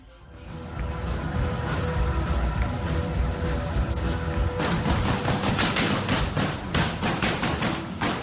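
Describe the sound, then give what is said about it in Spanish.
Rapid bursts of automatic weapon gunfire, fired indiscriminately by terrorists at the floor of the Bataclan concert hall in Paris, France, crackle on and off over a dense, noisy background, growing sharper and more intense in the second half, with no voices heard. “los terroristas irrumpieron a tiros de armas automáticas indiscriminadamente contra la pista de la sala.”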